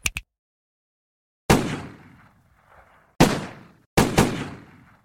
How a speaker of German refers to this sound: Am Morgen des 2. Juli 1994 peitschten 12 Schüsse über den Parkplatz des El Niño, einer Diskothek an einer Schnellstraße in einem sehr schäbigen Vorort der kolumbianischen Stadt Medellin.